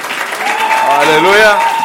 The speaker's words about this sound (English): You can clap hands for them. They're right. You can do much better than that, folks. You can do much better than that.